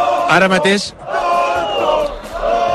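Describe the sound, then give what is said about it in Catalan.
A crowd of several hundred young protesters near police barriers shouts and jeers together at someone on Carrer Marquès de Urquijo in a loud, sustained roar, with a sharp raised voice breaking out at the start before the mass of voices swells steadily again. “Ara mateix estic intentant veure què és el que està passant, perquè tota la gent s'ha girat 180 graus cap al carrer Marquès de Urquijo per escridassar algú, potser algun company dels mitjans de comunicació.”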